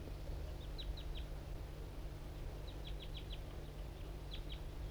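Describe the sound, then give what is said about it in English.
A wild bird up in an oak tree nearby gives faint, high, clipped chirps in three quick bursts of two to five notes each, over a steady low rumble with no voices. “And the wild bird is still around up in an oak tree right nearby here.”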